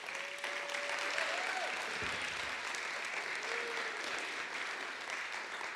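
A church audience applauds steadily as a woman is invited up to be introduced, a dense, even wash of many hands clapping for the full stretch, with a thin tone briefly sliding through underneath.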